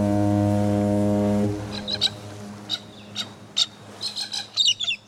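A long, deep ship's horn blast fades out, followed by a string of short, harsh squawks from a galah (rose-breasted cockatoo), a 15-inch bird that stowed away on a cruise ship from Brisbane, Australia. The squawks are loud and come in irregular bursts with no talking.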